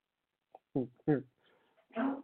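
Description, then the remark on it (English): A female dog named Maya coughs in short, harsh bursts: two quick hacking sounds close together, a pause, then a longer, raspier one, moderately loud. “Oh my gosh, my poor pup, she is not happy. She's like coughing.”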